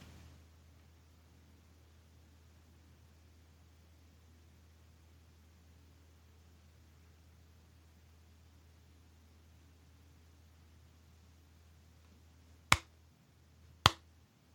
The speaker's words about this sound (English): That's a slow clap for Gene Jackson for, without question, the most interesting way to get to that joke ever.